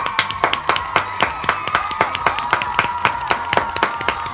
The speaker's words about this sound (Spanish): Oye, aplausos, por favor. Un minuto de aplausos.